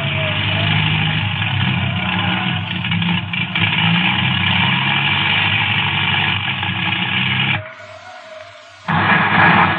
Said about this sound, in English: I don't know how he'll ever bring it down in this. If anybody can, he can. Plane approaching, sir. Plane circling the field.